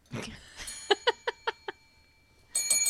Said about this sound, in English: And you ring a bell like a girl. Weird.